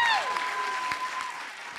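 An audience at a storytelling show claps for the storytellers in a dense, steady wash of applause, with a brief high tone sliding downward at the start and a faint sustained whistle-like tone underneath.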